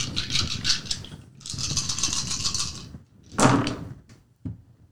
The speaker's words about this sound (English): Wow, those dice still fucked you. Mm-hmm. Same red dice, rolling like shit.